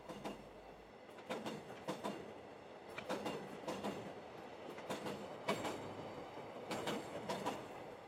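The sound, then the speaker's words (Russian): A noisy electric commuter train rumbles along steadily, its wheels clacking over rail joints in a repeating rhythm with bright metallic clicks, heard from inside the train at moderate loudness. “Проходить в пустой вагон шумной электрички совсем не хотелось.”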